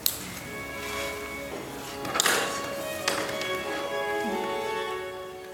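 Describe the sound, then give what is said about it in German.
Ballpoint pens scratch across cheap paper as prisoners write letters, a few short, dry strokes and taps set against a steady, faint tonal hum in the background. No one speaks. “Nur das Kratzen von Kugelschreibern über billigem Papier.”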